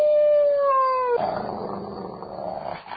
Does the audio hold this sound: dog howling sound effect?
yes